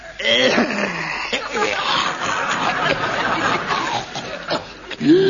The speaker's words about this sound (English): That's a cough.